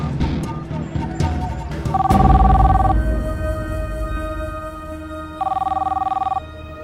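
A telephone rings twice, two trilling bursts about three seconds apart, fairly loud over a low rumbling background with a thud near the first ring.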